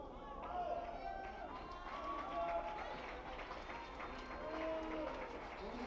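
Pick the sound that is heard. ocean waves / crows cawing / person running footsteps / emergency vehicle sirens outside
person running footsteps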